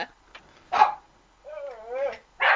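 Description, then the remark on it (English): A dog barks at a UPS delivery driver in a few sharp, loud bursts, breaking into a drawn-out wavering whine midway before another forceful bark at the end. “Well, it's not my dogs this time. Yeah, that'd be mine. UPS.”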